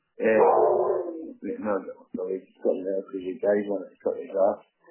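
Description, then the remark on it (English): A big dog barks and yowls in a string of drawn-out, throaty bursts: one long opening call, then several shorter ones with brief gaps between them. “He's not a small dog, he's a big dog.”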